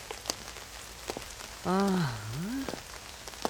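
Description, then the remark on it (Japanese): Steady rainy-season (tsuyu) rain patters on a hard surface with scattered sharper drips, fairly quiet; midway a voice lets out a short, drawn-out sliding vocal sound over it. “梅雨とはいえ、ほんと雨ばっかだな。”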